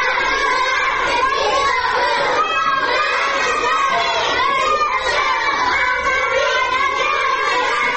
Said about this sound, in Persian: بله، با همون لحن کودکانشون دارن شعار میدن ژن ژیان آزادی.